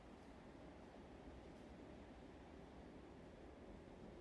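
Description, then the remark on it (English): A steady, even rush of calm sea waves rising and falling, a soft continuous surf with no distinct crashes and no voices, on the southeast side of the island of Brack. “just like watching the waves on the sea rise and fall, especially here on the Brack, on the southeast side of the island. They're calm waves.”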